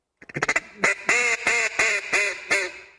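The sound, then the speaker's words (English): A duck call is blown: a quick stutter of short clipped quacks, then five louder, raspy, drawn-out quacks in a steady rhythm, with no one talking. “So with a duck call, you're basically going 10, 10, 10.”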